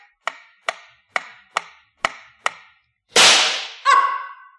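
Six sharp, snappy shooting-gallery rifle shots, fired to try to win a small saucepan as a prize, crack out in a steady, even rhythm, followed by a louder hissing burst and a short ringing tone with a metallic edge. No one speaks.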